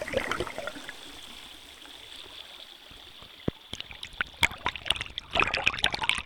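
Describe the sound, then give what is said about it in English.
A steady underwater trickle of flowing water recorded by a hydrophone placed on stones in a stream, joined midway by a series of sharp plonks and clicks as pebbles are dropped in, growing busier toward the end. “First, I place it on the stones with the water trickling above. And then I drop pebbles in. I love how they plonk.”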